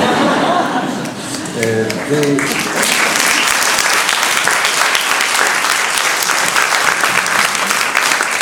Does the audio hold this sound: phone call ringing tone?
no